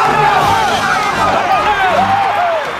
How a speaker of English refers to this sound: As the Cubs run out onto the diamond, the fans jump to their feet, clapping and cheering.